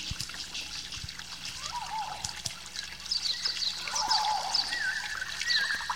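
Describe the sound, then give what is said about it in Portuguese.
Water trickles and splashes steadily near a waterfall, a continuous rushing with no voices, while a few faint bird chirps flit over it toward the end. “Parei perto de uma cachoeira e acendi uma fogueira para me aquecer.”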